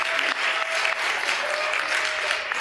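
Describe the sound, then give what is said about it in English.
A crowd claps steadily for the tech support team, a dense, even wash of applause that stays loud throughout with no voices rising above it. “Odd thing right in the middle of the message, but it's deserving of applause.”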